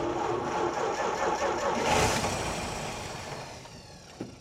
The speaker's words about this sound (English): She turned the key again, but the engine's response was the same, a stubborn refusal to cooperate. The scent of gasoline hung in the air. A testament to the car's flooding predicament.